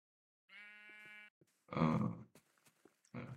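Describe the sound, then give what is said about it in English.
A video-game sheep, hunted by the player for food, bleats once in a steady, nasal tone, then a rougher grunting burst follows, with a few soft clicks and one more short bleat-like cry at the end. “There's sheep, but somehow, even when killing three of them, I still having food, so.”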